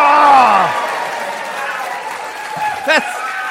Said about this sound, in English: That's the biggest round of applause I get tonight.